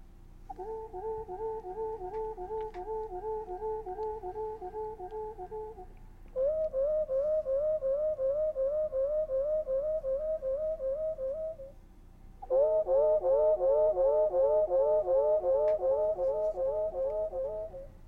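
Wood thrush song heard as long, sustained whistled tones in three steady sections, each a few seconds long, with a gentle wavering pitch that shifts between sections, and the last section louder.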